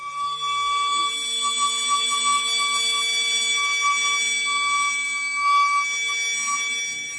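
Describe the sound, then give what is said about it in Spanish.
A strange, unexplained steady droning hum from the sky, heard in Forest Grove, Oregon, United States, and also in Cádiz, with a bright whistling tone on top. It holds the same sustained pitch for several seconds without pause, fairly loud and with no voices. “¿Son muy frecuentes este tipo de zumbidos o de silbidos extraños”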